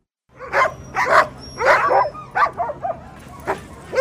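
Hundreds of sled dogs bark and yip excitedly in quick, overlapping bursts, loud, with a steady low rumble of activity underneath, as the streets of downtown Anchorage, Alaska fill with sled dogs and mushing fans in furs each March for the start of a 1,000-mile sled dog race.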